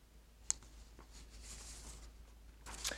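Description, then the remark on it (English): Soft paper rustling as a caught page is freed, with a sharp little crackle near the start, then light scratchy handling sounds that swell briefly toward the end, quiet, with no one talking. “Sorry, my paper's caught.”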